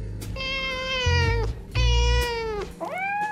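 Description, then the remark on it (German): A cat meows loudly at feeding time in an open-air enclosure: two long, drawn-out, wavering meows followed by the start of a third, rising one, with a low rumble of background noise underneath. “Aber sicher, das hattet ihr euch gedacht, wenn's um Mäuse geht, ist die Katze nicht weit.”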